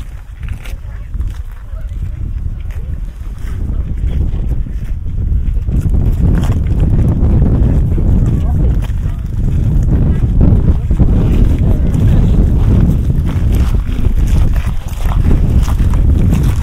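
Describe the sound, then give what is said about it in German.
The Strokur geyser erupts, shooting a water fountain an estimated 5 to 10 metres into the air, as it does every 5 to 6 minutes: a steady, powerful, loud roar of gushing water, while strong wind buffets the microphone throughout, building slightly after the first few seconds. “Alle 5 bis 6 Minuten schießt eine schätzungsweise 5 bis 10 Meter hohe Wasserfontäne in die Luft.”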